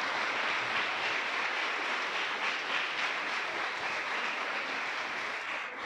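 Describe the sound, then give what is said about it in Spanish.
A crowd applauds God for saving souls, clapping steadily for about six seconds, a dense, crackling wash of applause that holds at an even loudness and fades only slightly at the end, with no voices over it. “¿Qué tal si usted le da otro aplauso a ese Dios que salva las almas?”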